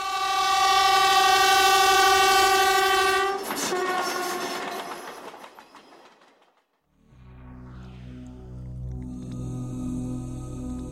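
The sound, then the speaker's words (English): A train's horn blares loudly for a few seconds, then the clattering rumble of the passing cars on the railroad tracks takes over and fades away, followed by a steady mechanical hum with no voices. “So they were running from the retrievers and didn't see the train.”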